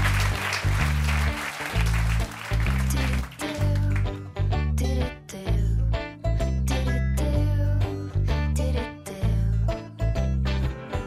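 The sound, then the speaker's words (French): A burst of audience applause for a quiz contestant who has just won a second point fills the first few seconds, then gives way to loud rhythmic music with a heavy, pulsing bass beat and sharp percussive hits. “que l'on applaudit vaillamment.”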